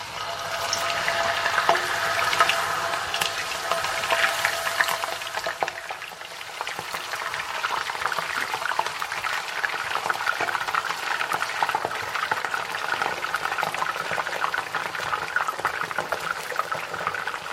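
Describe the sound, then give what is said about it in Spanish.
Cut potatoes added little by little into very hot oil in a frying pan fry with a steady dense sizzle and crackle with bubbling and spattering, loud, continuing evenly throughout with no voices. “Vamos a echar las patatas y dejémonos de tanta charla. Bueno, ahora cuidado porque realmente salpica muchísimo, ¿vale?”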